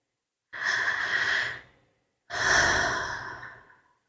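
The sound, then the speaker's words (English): Two slow, deep breaths, a full airy inhale followed after a short pause by a longer, gradually fading exhale, with no talking. “Listen to the sound of my breathing.”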